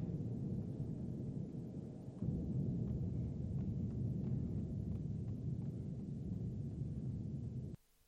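A plane crash sound effect: a thick, heavy low-pitched roar that rumbles steadily for several seconds with a brief dip partway, then stops abruptly, leaving near silence. No voices.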